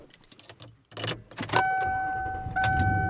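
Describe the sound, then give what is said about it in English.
Inside a father's car being driven around: a few clicks and jangles, a burst as the engine turns over, then a steady electronic chime rings over a low engine hum. No one speaks. “And I am driving around, and I'm actually back in the buggy. Back in my dad's car.”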